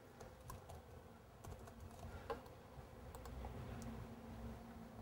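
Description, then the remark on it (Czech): Soft, irregular typing on a computer keyboard as text is entered, scattered keystrokes with one slightly sharper click on a button partway through, over a low steady background hum. “A teď by mi to tady mělo, když zadám ten text, kliknu na tlačítko, tak by mi to mělo ten text vypsat.”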